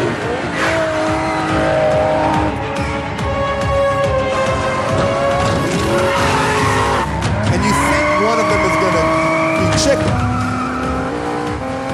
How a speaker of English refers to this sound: Just picture Vin Diesel and The Rock just driving fucking cars into each other